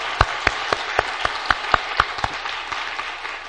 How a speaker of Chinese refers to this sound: 我要请他们起来，好，我们来给他们一个掌声，好不好？